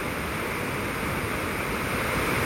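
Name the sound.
flowing water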